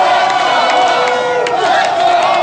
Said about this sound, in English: Let's go Hawks, those people were chanting. Fans poured into the streets celebrating hockey's Chicago Blackhawks and their second Stanley Cup championship in 4 years.